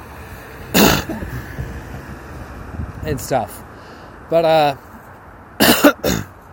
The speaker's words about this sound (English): wow, I feel like I'm gonna puke. That is weird. From hiccups? I don't know quite how that works. That is weird.